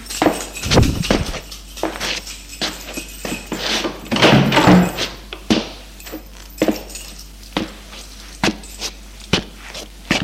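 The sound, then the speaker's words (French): Fumbling as keys jingle and an apartment door is worked open with difficulty, a string of scattered clicks, rattles and knocks with one louder clatter partway through, no voices. “Il a ouvert la porte de son appartement.”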